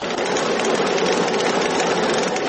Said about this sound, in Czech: I zaista bila bi šteta kada se u ovom starom, ali funkcionalnom mlinu ne bi više čuo jedinstveni zvuk kamena kojeg pokreće voda, odnosno kada bi nestalo svjedočanstvo o životu i radu prije stotinja godina u ovom dijelu Bosne i Hercegovine.